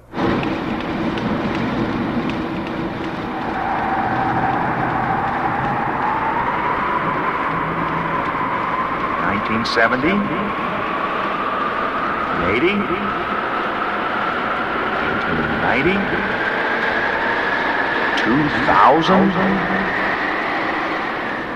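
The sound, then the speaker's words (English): A steady, dense whooshing roar with a tone that slowly rises in pitch, punctuated by several sharp zapping bursts, as a time machine travels fast through time to the year 2050, with no voices. “Wow, we traveled so fast that here we are in 2050 already.”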